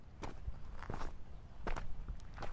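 Footsteps walk toward a car at a steady, unhurried pace, about eight or nine soft crunching steps over a low background hum, with no voices.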